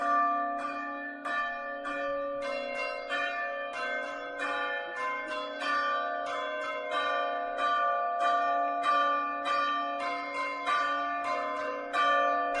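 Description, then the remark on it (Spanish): Church bells ring out in a steady, brisk sequence of strikes, their overlapping tones sustaining throughout, loud, with no voices present; a toll composed by Rosalina, rung as a warning when temperatures exceed 35 degrees. “Antes de nada, vamos a escuchar cómo suenan esas campanas en caso de que superen esos 35 grados con esta pieza, con este toque que ha compuesto Rosalina.”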